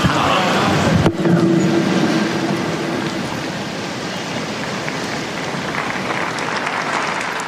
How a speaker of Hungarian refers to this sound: És ma is tapsal köszönjük meg a Szent Atyának az áldását.